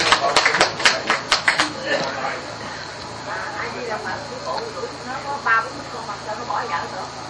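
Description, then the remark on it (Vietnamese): A short burst of audience clapping, sharp overlapping claps for about two seconds, then it dies away into a low murmur of background noise with faint voices. “Vỗ tay.”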